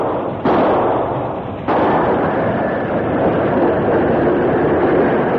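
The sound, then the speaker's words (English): A big steam engine rumbles loudly at steady speed while two sharp bangs burst out about a second apart as its wheels set off railroad torpedoes placed along one rail, the roar continuing unbroken afterward. “The big engine approached rapidly, maintaining a steady speed until one of the wheels exploded the torpedoes.”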